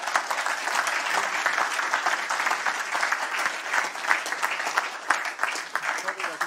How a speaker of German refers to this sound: So, vielen, vielen Dank. Mit diesem Schlusswort einen großen Applaus.